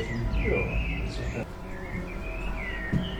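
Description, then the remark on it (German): Birds chirp and whistle repeatedly in a garden, heard through an open garden window from the upper floor of a small townhouse in Iserlohn, Germany, over a low indoor hum. “Das Fenster zum Garten ist offen, die Vögel zwitschern.”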